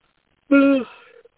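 A person lets out a short, voiced yawn: a loud, steady, low-pitched tone that fades into a softer, breathy trail, with no talking around it.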